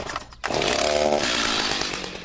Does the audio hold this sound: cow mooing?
no